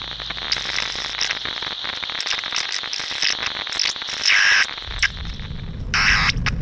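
Harsh, crackling radio static from Storm losing signal fills the whole stretch, with high whistling squeals and warbling tones sliding over a dense hiss, then a louder rumbling wash of noise surges in near the end.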